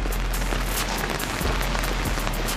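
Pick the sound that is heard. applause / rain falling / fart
rain falling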